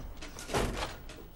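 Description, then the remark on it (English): A shop door at Snappy Snaps swings open with a soft, brief whoosh and a faint rattle, heard alone and fairly quiet, lasting under a second. “The door opens at Snappy Snaps.”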